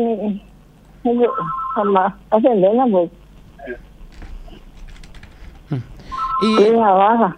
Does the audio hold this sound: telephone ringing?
yes